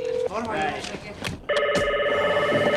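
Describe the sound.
A telephone rings on the line during a call to the police, a loud, steady electronic tone that starts partway through and holds unbroken to the end, after a brief stretch of muffled background voices and noise.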